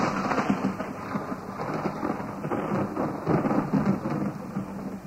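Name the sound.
thunder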